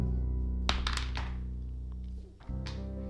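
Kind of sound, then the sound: die being rolled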